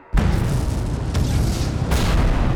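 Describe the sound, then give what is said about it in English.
Loud explosions and booming gunfire from fighting in a camp erupt suddenly, merging into a continuous heavy rumble, with fresh blasts punching through about a second in and again near the end. “Explosions in the camp filled the small window, and Kate could feel the rush of heat, even through the wall.”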